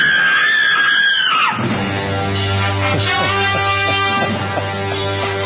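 A woman lets out a loud, high-pitched scream lasting about a second and a half, which gives way to a sustained, buzzy, lower-pitched drone that continues to the end.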